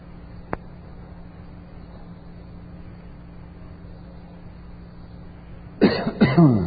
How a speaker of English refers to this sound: You ever choke yourself on saliva? I don't often need glasses of water when I preach, but I'll take one now,